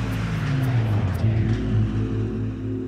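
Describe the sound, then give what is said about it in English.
An off-duty taxi driven by Hugh Gravett roars loudly, its low engine growl holding steady while the pitch dips and shifts as it barrels around a bend on Peachtree in Atlanta, heading toward a couple crossing mid-block; no one talking. “Mitchell and her husband leave the Atlanta Women's Club, cross Peachtree mid-block, and as they do, an off-duty taxi driver named Hugh Gravett comes barreling around the bend. His car is heading right for the couple.”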